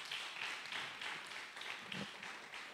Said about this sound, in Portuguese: Dá um aplauso a Ele, então. A Ele.